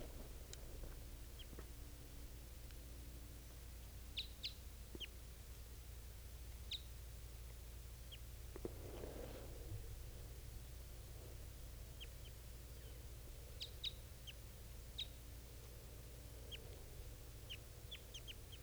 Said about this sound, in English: Both of those birds are calling it.